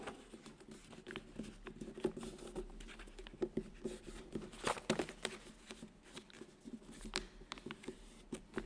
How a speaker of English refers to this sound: I'm going to give you a clue what we need from this piece of paper. I'm going to fold it.